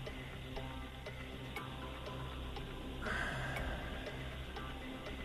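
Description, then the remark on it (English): A clock ticks steadily, roughly two crisp ticks per second, over a continuous low, droning background bed. It is a sound effect marking thinking time for a quiz question. “Little clock question.”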